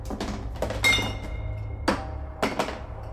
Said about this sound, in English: I flinch as my arm hits a shelf, and tins clatter to the dirt floor with distant metallic clunks.